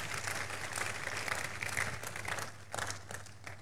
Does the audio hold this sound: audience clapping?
yes